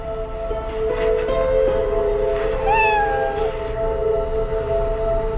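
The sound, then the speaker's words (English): A single drawn-out cat meow rises and falls midway through, heard over a steady low electrical hum in a daughter's room. No one speaks. “We assumed that it was the girls playing with the cat to let us know that they were in the room with us.”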